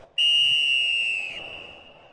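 A single long, shrill referee's whistle blast rings out loudly for just over a second, ending a 0-0 football match between Duque de Caxias and Olaria on Rua Bareri, then fades away over a low, steady murmur of outdoor background noise.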